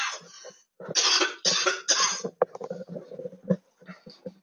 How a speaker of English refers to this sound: I just have more coffee. Okay, coughing will do.